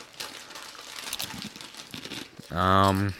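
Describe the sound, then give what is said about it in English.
A bag of Chicago-style hot dog flavored potato chips crinkles and rustles as it is opened to try a few chips, a steady, papery stream of crackles for a couple of seconds, then a short, loud voiced sound from a person cuts in at the end. “And I'm going to try a couple chips first.”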